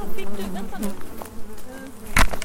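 Honeybees buzz steadily as a frame with honey is lifted from their hive, upset at the microphone, a dense droning hum with shifting pitch, broken by a brief sharp knock or rustle near the end.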